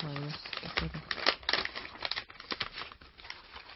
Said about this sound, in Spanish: ¿qué le parece si tomamos estas hojas que tenemos aquí, las arrugamos formando una bola?